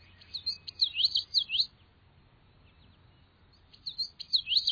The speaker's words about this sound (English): Cattail marshes will soon ring with the galloping melody of the common yellowthroat.